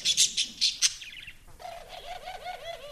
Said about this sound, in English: There's a bowling alley, a billiards room, and a conservatory, home to cages of parakeets, canaries, and doves, the kind of birds that the DuPonts kept.